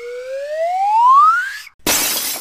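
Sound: car window glass shattering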